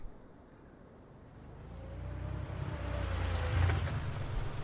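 A car engine rumbles low and steady, growing gradually louder over a few seconds, with a faint whining tone riding above the drone and no voices, as the car slows, comes to a stop against some bushes and the engine stalls.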